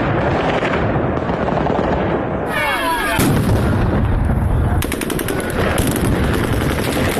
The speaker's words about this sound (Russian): Это кадры с митинга 21 марта в Херсоне. Мирный протест херсонцев закончился силовым разгоном. Российские военные открыли огонь по протестующим.